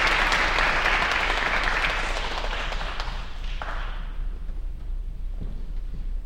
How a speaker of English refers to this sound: Please give him a round of applause as he fills out our panel,